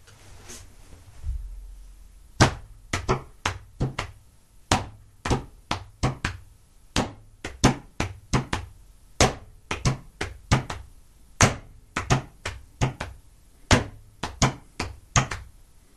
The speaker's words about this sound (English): Okay, so the fours were played with the slapping my leg. The threes were played pounding on the table.